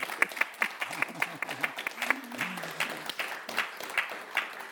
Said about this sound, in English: And I just wonder if... people would like to ask questions, but before we do, I think we should give you a round of applause and then ask questions.